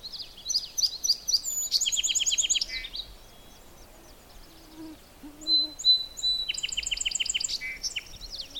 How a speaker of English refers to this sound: And there's the song sparrow.